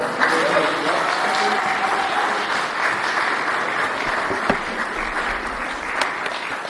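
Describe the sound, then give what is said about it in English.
An audience at a church service applauds steadily, a dense wash of many hands clapping at once that holds at an even, fairly loud level throughout, with a few faint voices mixed underneath. “And you can clap if you want.”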